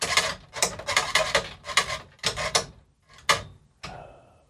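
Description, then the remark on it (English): A prize wheel spins with a series of loud rasping, rubbing bursts that come in uneven pulses and slow down, ending in a softer, fading whir. No one speaks. “All right, here's a real spin.”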